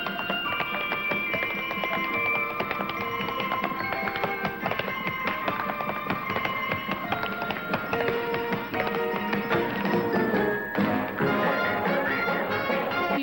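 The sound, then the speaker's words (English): Rapid, crisp taps of a man's tap shoes striking the main dance floor as he dances near people seated in chairs around the edge of the room, steady, mixed into loud, busy music that plays throughout without any talking. “He taps near people sitting in chairs around the edge of the room.”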